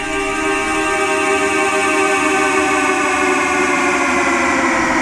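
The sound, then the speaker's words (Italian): A steady, blaring car horn tone played in reverse, swelling in at the start and then holding as a loud, buzzy, harmonically rich drone with no voices over it. “ed ora il suono di un clacson suonato al contrario.”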